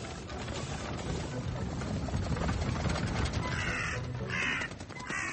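crow cawing

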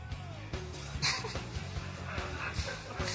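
dogs barking and whimpering

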